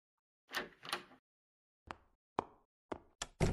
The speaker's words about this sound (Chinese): 哇哦，福尔摩斯亲自为我开门关门。我恐怕是最幸福的华生了。